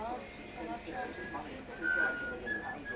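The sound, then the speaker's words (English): Someone attempts to whistle a tune, producing a few brief, thin whistled notes amid breathy, faltering tries, while other people talk and murmur. “Why can't women whistle?”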